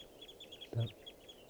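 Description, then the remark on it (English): A flock of birds in a park calls in a steady stream of high, overlapping chirps, with one louder, lower cluck-like call breaking through briefly in the middle. “Birds are calling here.”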